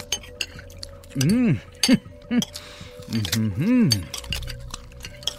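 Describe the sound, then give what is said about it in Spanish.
Plates, glasses and cutlery clink together in a quick, irregular series of sharp metallic and glassy taps as men eat a meal of dishes, liquors and sweets, with muffled voices rising and falling over the clatter. “Lentamente, los platillos, licores, dulces y el resto de las ofrendas fueron devorados para dar paso a pilas de platos sucios y copas usadas.”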